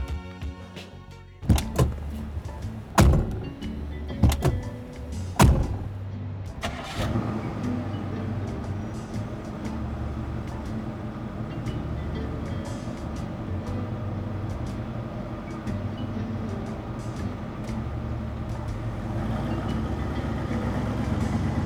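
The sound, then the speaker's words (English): Several solid car-door thunks of an old 1993 Lincoln Town Car, then its engine turns over and settles into a steady, rumbling drone as it drives along in Atlanta, continuous to the end with no talking. “And after he slammed back his first gin and tonic, he led me out to his car. An old 1993 Lincoln Town car.”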